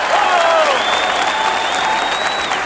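A steady wash of audience applause, many hands clapping at once, loud and sustained throughout with no break, a few faint tonal sounds drifting over the clapping.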